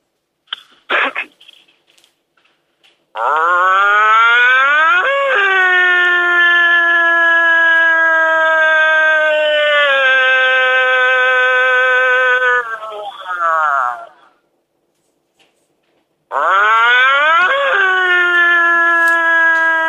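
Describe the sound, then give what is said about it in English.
A person imitates a wolf with a long, steady, loud howl lasting about ten seconds, calling to wolves to see if they answer, its pitch wavering and dipping slightly, followed after a pause by a second howl; a brief vocal burst comes first. “I'm going to howl, and let's see if they answer.”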